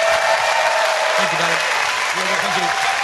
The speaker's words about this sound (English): Ladies and gentlemen, please give a massive round of applause for Brady. Thank you, darling.